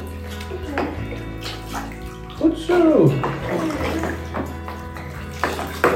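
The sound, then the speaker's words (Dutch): Water splashing and pouring as a rubbed-on product is rinsed off a person with water from a small bucket, a steady rinse with a louder gush midway, while a voice speaks briefly. “En dan gaan we het even rustig met een emmertje eraf laten spoelen.”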